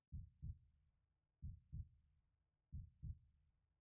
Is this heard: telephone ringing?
no